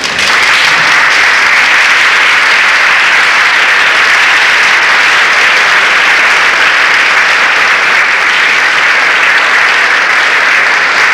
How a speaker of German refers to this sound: Meine Damen und Herren, ich möchte Herrn Dr. Franke recht herzlich für seine Ausführungen danken und wie ich an Ihrem Beifall gehört habe, haben Sie ihm ebenfalls schon dafür gedankt.